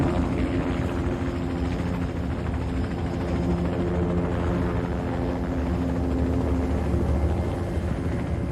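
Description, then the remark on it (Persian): A helicopter's steady, loud rotor roar with deep low harmonics holds constant throughout as it takes off from a ship's deck, with a broad rushing wash of wind and engine noise and no voices. “عرشه رو آماده کن، باید هلیکوپتر بفرستیم.”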